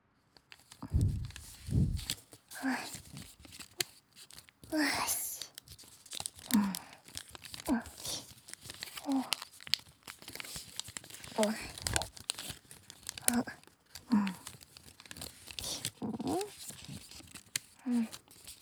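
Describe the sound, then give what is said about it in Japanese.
Origami paper being folded and creased, with soft crinkles and repeated swishing strokes as a fingertip traces along the fold, fairly quiet, recurring every second or two. “髪を折って、スーってなぞる音。落ち着ける気持ちのいい音だよね。”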